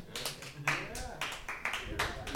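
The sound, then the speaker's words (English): Light, polite golf clapping: a small group patters out a steady run of soft claps for a couple of seconds, with a faint murmur of voices underneath. “Most I will take the golf like claps.”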